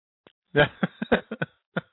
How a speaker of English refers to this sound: That's another coughing fit.